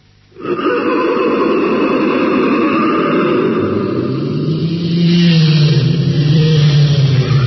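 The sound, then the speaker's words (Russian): A vehicle engine turns over and catches, settling into a steady loud rumble, then its pitch climbs as the vehicle pulls away and accelerates, setting off from Moscow on an excursion. No voices are heard. “Юрий Алексеевич, заводите.”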